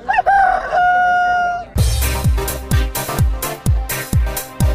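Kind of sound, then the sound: bird, rooster crowing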